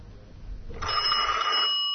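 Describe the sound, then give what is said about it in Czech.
A telephone bell rings out loud, a sustained bright trill starting partway in after low background rumble, then cutting off just before the end. “Telefon će nam biti veza sa studentima, đacima i profesorima koji su se okupili u botaničkoj bašti kako bi obeležili dan nauke”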